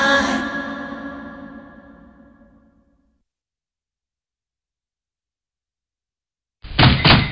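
Someone knocks at a door: a heavy, booming hit that rings and fades over a few seconds, then after a silent pause a loud burst of knocking.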